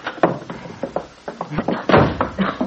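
A kitchen door at the Lane farm bursts open as a man bursts through it, with a series of loud thumps and rattling knocks, several quick impacts clattering together over a couple of seconds.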